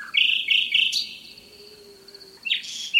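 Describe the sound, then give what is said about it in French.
A common nightingale sings in the Cantal in the early morning: quick bursts of bright, repeated notes, a thin drawn-out whistle in the middle, then another rapid flourish, with no voices. “Alors ça, c'est le grand chanteur, c'est le rossignol.”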